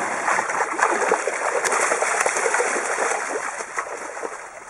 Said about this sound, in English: two teenagers, an exchange student from Portugal, crossed the road to Scandia Creek to watch the salmon making their way upstream. It's a tiny creek, and the water level is so low that the salmon bodies were often half exposed as they made their way.